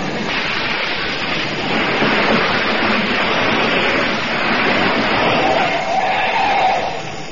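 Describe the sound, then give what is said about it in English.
A truck engine rumbles with a broad, rushing roar that holds steady for several seconds as the truck arrives, a faint whining tone rising near the end. No one speaks. “should be here with his truck any minute. Hey, here he comes now.”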